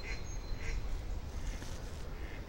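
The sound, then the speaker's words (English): A duck quacks several times at a slow, irregular pace, moderately faint, at Stowpool near a cathedral, over steady outdoor rumble with no talking. “You can hear the ducks over there. Or the duck.”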